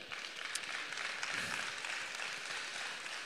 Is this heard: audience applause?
yes